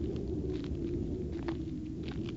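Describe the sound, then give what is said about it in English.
Wind blowing in a steady, low rumbling rush that barely changes in loudness, with faint brief hissy gusts flickering above it, part of a film scene's sound in which Luke works on a moisture evaporator. No one speaks. “Working on the moisture evaporator, Luke's footsteps, wind,”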